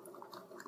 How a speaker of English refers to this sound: Here we go. It's coming out very slowly. So basically, the water in the tank fills up and it goes up through this bar, and the bar goes and pours over the top of the grounds in the single cup, just like a barista would do if you ordered a pour over